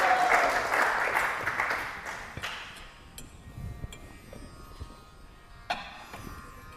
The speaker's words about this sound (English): And without further ado, I'll turn it over to him. One more time, let's give him a big round of applause.